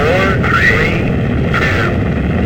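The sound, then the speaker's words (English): The main engines of America's first space shuttle roar at ignition in a loud, steady, rumbling blast that fills the low end, with faint radio-like voice traces riding over the din. “We have main engine start,”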